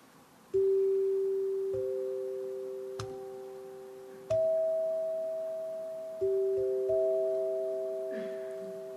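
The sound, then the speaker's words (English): A seven-note NBC radio chime cue, the systems cue NBC Red used to identify itself until its operations moved to 711 Fifth Avenue in 1927, plays alone: clear, bell-like tones struck one after another at an unhurried, uneven pace, each ringing and slowly fading into the next. “Without citing any sources, he stated that until the operations moved to 711 Fifth Avenue in 1927, NBC Red identified themselves with a seven-note systems cue.”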